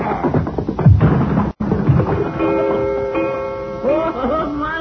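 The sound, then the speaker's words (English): A coyote, hit hard, slams into a wall with a booming thud, then knocks a clock down, which crashes and leaves a sustained metallic ringing that lingers for several seconds. “You hit that coyote so hard, he banged up against the wall and he knocked the clock down.”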